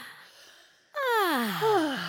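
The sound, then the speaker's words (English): A person takes a deep breath and lets out a loud, drawn-out yawn-like vocal sigh that glides downward in pitch, with no talking. “That was like a sassy yawn I just gave.”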